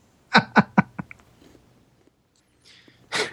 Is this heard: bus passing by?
no